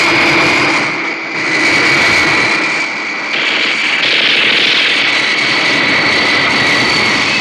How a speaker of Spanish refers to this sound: ¿Cuántos motores tiene este bólido infernal? Estoy oyendo muchos.